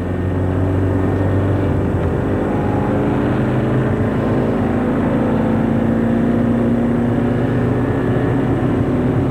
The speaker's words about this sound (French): Et le taxi met la voiture en route. Et la voiture fonce.